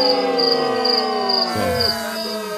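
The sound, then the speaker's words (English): A crickets sound effect: crickets chirp in a steady, pulsing rhythm throughout, with a sustained droning tone underneath that wavers and shifts partway through. No one speaks. “My boys, ….”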